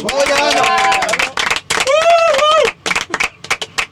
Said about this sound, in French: Bravo à nos lutricodeurs et des applaudissements particuliers